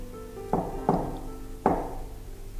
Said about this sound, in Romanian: În seara aceea de iarnă, când începe istorisirea noastră, în ușa cea mare de stejar se auziră trei ciocănituri, dar altminteri rostuite decât cele ale obișnuiților casei.